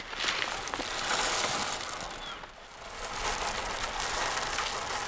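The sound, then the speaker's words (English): A steady, gritty rattle of birdseed being poured into several metal cages set on a table outdoors on a snowy day, as bait to draw in birds. The pattering is dense and continuous, with a brief dip in the middle before picking back up. “I'm going to pour some birdseed.”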